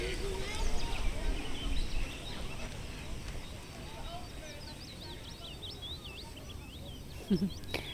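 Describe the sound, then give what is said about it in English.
A willow warbler sings a run of high, sweet, descending notes, fairly faint, over a steady murmur of outdoor background noise with a brief low thud near the end. “Oh, it feels like only 10 minutes away, and the willow warbler's back.”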